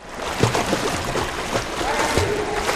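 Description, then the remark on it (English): Water splashing and churning in a reverberant indoor swimming pool at the YWCA in Lewiston, Maine, during a women's-only swim class, a swimmer clutching a kickboard, with irregular kicks and slaps over a steady wash of echoing noise and faint background voices. “clutching a kickboard and splashing her way through the swimming pool at the YWCA in Lewiston.”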